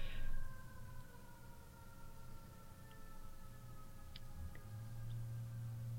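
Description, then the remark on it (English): Sirens wail faintly, their long steady tones drifting slightly in pitch over a low rumble, with no one speaking. “And I'm going to stop for the sirens”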